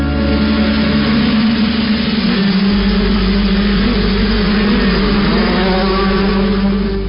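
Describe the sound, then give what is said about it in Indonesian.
A loud motorcycle with a very loud exhaust, carrying two riders, drones as it overtakes from behind on a bend, its pitch shifting as it pulls alongside and passes, with a steady rumble throughout and no voices. “Di salah satu tikungan, motor yang berpengendara dua orang itu pun menyusul kami.”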